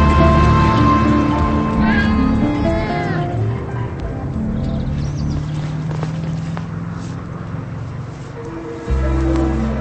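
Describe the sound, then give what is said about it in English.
An injured cat named Gus, lying on the ground under a bush by a driveway with a broken leg, lets out a drawn-out, wavering, plaintive meow early on, fairly clear, over a steady low rumbling background that continues after the cry fades. “He walks up the driveway and sees his cat lying on the ground under a bush.”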